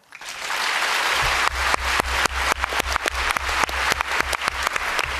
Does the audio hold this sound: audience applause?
yes